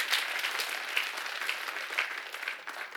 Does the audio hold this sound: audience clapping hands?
yes